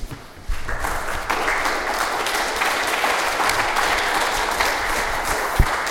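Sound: audience applause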